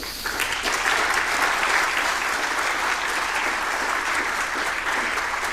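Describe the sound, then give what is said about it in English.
A conference audience applauds Pre-Talks for developing an open-source tool, a dense crackle of many hands clapping at an even, fairly loud level throughout, with no voices standing out. “And Pre-Talks was kind enough to develop this in like 2 weeks' time, so would love to give them a warm round of applause.”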